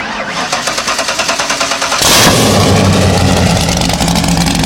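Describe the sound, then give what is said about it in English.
A loud, unmuffled straight-piped Ford GT40 V8 engine cranks with rapid rhythmic pulses, then bursts into a roaring rev that holds steady and raw, very loud. “Listen to how loud this is. I know you still hear it. Wait, I'm coming back. Wait. The straight pipe Ford GT40.”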